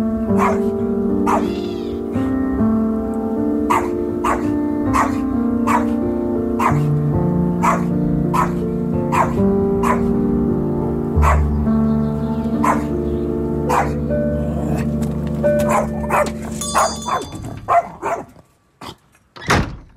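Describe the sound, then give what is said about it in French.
A dog barks over and over at a steady, rhythmic pace, loud, above a sustained tonal background hum, until the sound cuts off near the end. “Moi, je suis un peu cinglée avec mon chien.”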